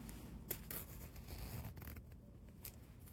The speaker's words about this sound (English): Okay, so I think the first thing I'm gonna do is unzip my sweatshirt a little bit. Actually, it's too thick to really go over it. See if you can hear the zipper, I'm not sure.